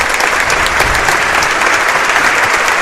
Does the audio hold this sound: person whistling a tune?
no